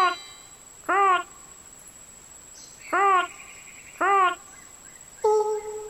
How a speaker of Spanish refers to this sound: Tenés una forma de cantar muy especial. Al canto del búho se le llama ulular. Debe ser porque ulular tiene muchas U.